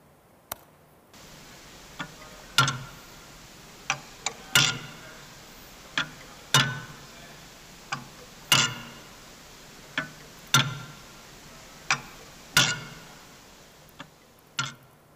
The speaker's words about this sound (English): And that image that you see is of an accelerometer mounted on the great clock with a magnet. And this is the kind of very pure sound of the accelerometer just ticking.